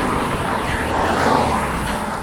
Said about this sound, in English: I'm replacing that distracting sound with the sound of traffic here on Betty Lane. Not Penny Lane, but Betty Lane.